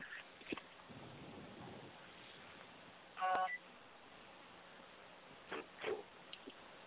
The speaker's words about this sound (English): And hold on for just 2 seconds. I'm getting a phone call, and I want to turn it off. Hold on.